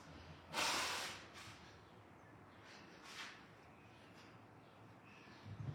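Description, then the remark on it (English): A forceful nose blow bursts out, then a couple of shorter, quieter blows follow over a faint background hiss, with no talking. “Excuse me while I blow my nose.”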